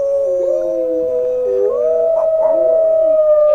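Several wolves howl together in long, overlapping, wavering tones that rise and slide in pitch, loud, with no talking.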